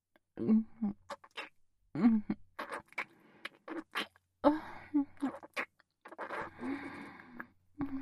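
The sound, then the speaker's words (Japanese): Wet lip smacks and kissing sounds come in quick repeated bursts with short pauses, mixed with soft breathy vocal murmurs but no clear words. “そなた、とうとうおひとキス。してしまいましたね。”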